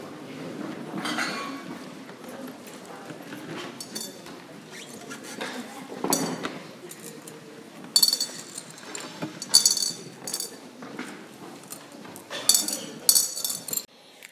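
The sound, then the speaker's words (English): Small glass stones clink and rattle as church members drop them into a glass bowl at a church in Hartford City, in scattered bursts, some single taps and some quick clusters, over a murmuring room with faint background voices. “After everyone put those little glass stones into a glass bowl, each one representing their own cultural, racial, ethnic identity or background, we were able to get a snapshot of what Hartford City Church looks like at this particular moment in time.”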